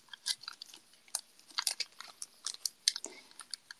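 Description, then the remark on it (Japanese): Someone chews crunchy food, with irregular bursts of crisp, crackling bites over about four seconds and no talking. The crunches vary in loudness, some sharp and others softer. “食べた。”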